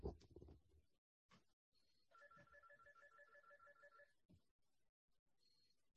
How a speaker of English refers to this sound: All right, my phone is ringing. All right, one second. So, all right, excuse me just one second.